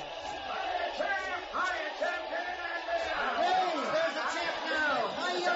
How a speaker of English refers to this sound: The crowd is going wild.